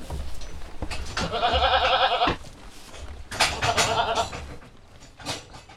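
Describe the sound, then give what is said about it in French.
Poitevine goats, from a small herd of 35 at the goat farm of la Méouge, bleat loudly: two long wavering calls with a few shorter bleats in between, with no talking. “Alors, ici, on est à la ferme de la Méouge, la chèvrerie de la Méouge,”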